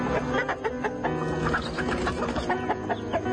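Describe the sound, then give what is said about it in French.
A big rooster clucks repeatedly in short, uneven bursts, steady throughout, with other fowl murmuring faintly in the background, as someone approaches to catch it. “Je vais attraper ce gros coq-là, maintenant.”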